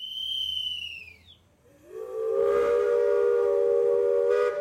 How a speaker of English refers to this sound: Today the train is for entertaining visitors to the museum, but it has a deeper history. Trains like this, over the decades, brought almost 3 million immigrants to this place alone.